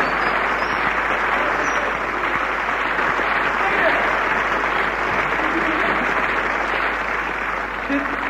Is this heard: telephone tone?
no